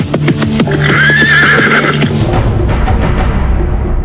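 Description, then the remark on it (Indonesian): A horse, reined in sharply by its rider on a road, gives a loud whinny lasting about two seconds, with a rising and falling squeal, then settles into snorting and a few hoof sounds on a noisy background. “Tapi gadis itu buru-buru menarik tali kekang kudanya. Begitu melihat penunggang kuda yang lain merintangi jalan.”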